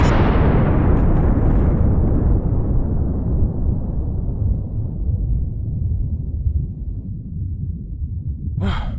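A massive nuclear explosion blast: a deep, roaring boom that fills the space, then a long rumbling decay that slowly fades over several seconds, with a short breathy sound at the very end.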